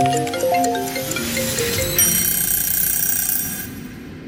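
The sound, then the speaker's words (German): A laundry timer alarm rings with a run of bright electronic tones shifting in pitch, then settles into a sustained high ringing that slowly fades out. No one speaks. “Der Timer für die Wäsche ist um.”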